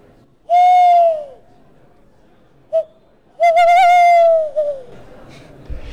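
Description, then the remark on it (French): Three owl hoots ring out clearly: a long hoot, a brief one, then a longer wavering call that trails off, each loud, separated by short quiet pauses. “Les chouettes le font, et une chouette me l'a fait, moi. Regardez, enfin, écoutez plutôt.”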